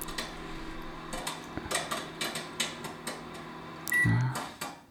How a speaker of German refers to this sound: Das war aber das Mikrowellenpiepen.